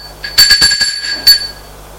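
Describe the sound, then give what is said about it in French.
A doorbell at a front door rings with a bright, metallic tone: a quick burst of several rapid strikes, then a brief pause and one more ring that fades out. “Sonne à la porte d'entrée.”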